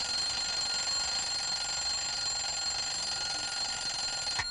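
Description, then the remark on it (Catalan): An alarm clock rings in a continuous, shrill electric jangle, steady and fairly loud for several seconds, then cuts off abruptly with a small click. No one speaks. “Bé, sembla que el rellotge no vol...”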